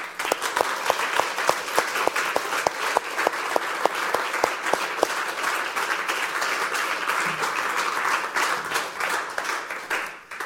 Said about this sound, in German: Wir ihn doch mit einem ganz warmen Applaus begrüßen.